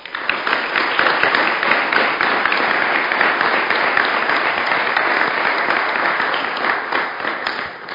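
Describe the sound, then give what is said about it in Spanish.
Sustained applause from a sizable crowd, dense and steady for several seconds before easing slightly at the end, with no voices. “Un aplauso para todos.”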